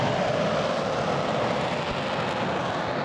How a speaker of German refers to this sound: Im Frühsommer 2023 donnern Kampfjets über das Rollfeld im Lager Lechfeld bei Augsburg. Zwei Eurofighter jagen hinauf in die Wolken zu einem Übungsflug.